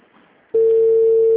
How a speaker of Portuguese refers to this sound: Não, tá chamando.